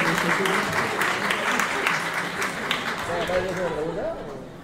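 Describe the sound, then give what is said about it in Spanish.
A steady burst of applause, dense rapid clapping at an even loudness throughout, with voices talking over it toward the end. “Es cierto, aplauso para la iniciativa.”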